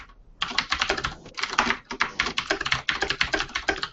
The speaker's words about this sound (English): Sounds like he's doing something. I know. Wow, that, he types faster than I do, that's for sure. Yeah, I'll work on getting a quieter keyboard.